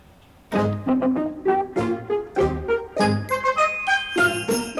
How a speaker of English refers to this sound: Jingle, jingle, jingle, you will hear my sleigh bells ring.